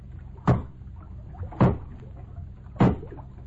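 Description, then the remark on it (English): An axe chops into floating logs at a log jam, swung from a boat, with three sharp, evenly spaced strikes about a second apart, each a solid thunk over a low, steady background rumble. “Give me that axe. Here it is, Paul. All right. Now hold the boat steady while I start swinging.”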